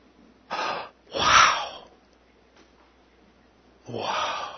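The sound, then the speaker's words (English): A person gasps in amazement three times, two quick breathy intakes close together and then a longer one after a pause, fairly loud with no speech. “We will be amazed forever, gasping, amazed and astounded at his grace.”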